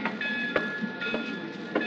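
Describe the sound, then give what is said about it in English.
Train wheels clack over rail joints in a steady rhythm, sharp periodic clicks riding on a continuous rumbling roar of a moving railcar heard from inside, with faint high whine, in the radio drama The Girl in Car 32. “Flying out here from New York last night and taking a train back this morning isn't my idea of fun, though.”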